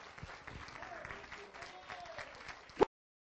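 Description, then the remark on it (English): A church audience gives a hand clap of praise in the morning, clapping steadily for nearly three seconds, a dense wash of many hands with a faint murmur of voices underneath, ending with one louder burst before silence. “Church, let's give him a good hand clap of praise this morning.”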